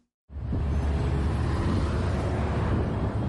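Steady, dense rumble of slow-moving road traffic with low engine drone in the upscale suburb of Runda, Nairobi, Kenya, constant and fairly loud after a brief silent start; no voices.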